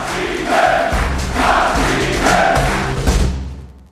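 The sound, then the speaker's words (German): A large crowd in a hall at an AfD political Ash Wednesday event chants "abschieben" (deport) in unison, a loud rhythmic call repeated three times at roughly one-second intervals, with cheering voices swelling between the chants before fading at the end. “Wenn jetzt der ganze Saal jubelt mit dem Aufruf abschieben, dann ist es kein Witz mehr.”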